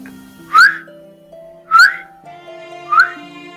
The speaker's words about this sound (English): He was El Tue, a little goblin who was only seen by children, although everyone could hear his distinctive whistle.